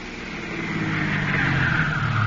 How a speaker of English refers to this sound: Isn't that a car coming up the drive now?